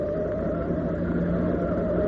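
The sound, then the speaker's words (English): A car engine roars steadily as the car speeds around a corner much too fast, loud, with a constant rumbling drone and no pauses for the whole moment. No voices are heard. “you took that corner much too far.”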